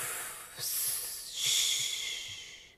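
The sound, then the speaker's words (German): A voice produces two sustained hissing sibilant sounds, a higher, sharper hiss followed by a louder, slightly lower one like 'sss' then 'sch', with no speech. The hissing sounds are used as breathing exercises within a story. “Und da bringt man dann Laute rein, die zum Beispiel gut für die Atmung sind. So Zischlaute.”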